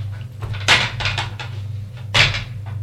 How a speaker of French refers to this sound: Elle le trouve au salon, en train de ranger des chaises.